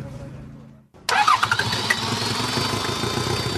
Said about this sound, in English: Astonishingly, the Toyota was not dead. It started. Now, let's see if it moves.